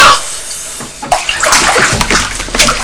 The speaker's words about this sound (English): You don't have to do that. Don't splash water on the floor like that, please.